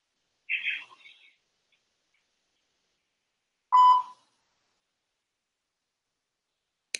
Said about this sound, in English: All right, so I guess that was a voicemail. I didn't even know. But when I heard the beep, I knew, right?